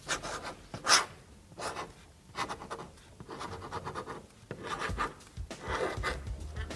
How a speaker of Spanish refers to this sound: Ahora que te he visto escribiendo aquí con el dedo, quiero que escribas aquí con el bolígrafo una palabra que te dé suerte. Y que la digas para que te oigan.